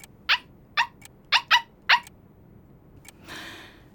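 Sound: stray dog barking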